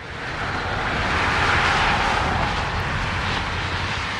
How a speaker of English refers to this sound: When she hears the roar of 94, it's harmful noise. Noise from traffic has been known to cause major physical illnesses.